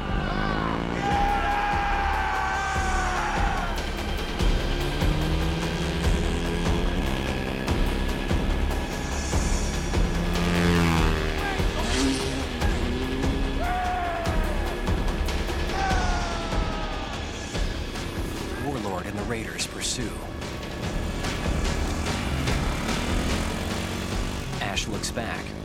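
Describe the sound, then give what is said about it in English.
Motorbike engines roar and rev steadily for the whole stretch as two bikes ride away, one carrying a passenger who jumped on the back, their pitch rising and falling, with voices and scattered shouts mixed into the engine noise. “She jumps on the back of Prince's bike. With Lee on another bike, they ride away.”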